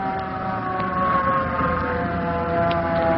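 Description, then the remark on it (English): A hook and ladder fire truck's siren wails steadily and loudly for the whole stretch, a sustained droning tone with a low rumble beneath it and no voices. “Hey, look at the fire engine. Oh, fire engine. That's a hook and ladder truck.”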